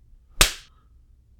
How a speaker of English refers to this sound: That's another 5. That's better. You wanted to know why I'm spanking you?